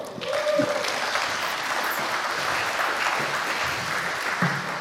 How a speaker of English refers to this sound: So please welcome, with a very warm round of applause, your own mail server 2025 edition